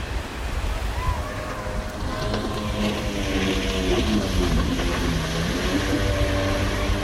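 Jet ski engines drone and whine across Utah Lake on a warm day, their pitch rising and shifting, over a steady wash of high waves and wind.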